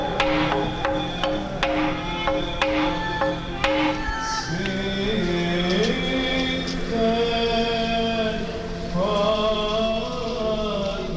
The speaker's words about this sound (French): ce sont ces bruits de marteaux. Oui, alors c'est une façon d'appeler à la messe, qui est différente des cloches probablement, parce qu'il y a pas mal d'églises qui n'avaient pas de cloches.